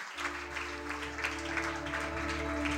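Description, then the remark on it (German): Steady audience applause at a poetry slam at the Luise, given for the venue staff: a dense crackle of many hands clapping at once, sustained and fairly loud throughout over a low constant hum. “Erstmal einen riesen Applaus an alle Mitarbeitenden der Luise, die hier an der Technik sitzen, den Livestream machen, den Einlass geregelt haben, die Hygienebestimmungen geregelt haben, an der Bar sind und einfach grundsätzlich...”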